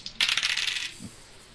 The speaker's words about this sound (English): Okay. I'll use the big dice for this. You're a big boy now.